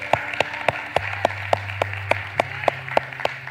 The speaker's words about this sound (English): All right. Well, can we clap and celebrate with our brother here?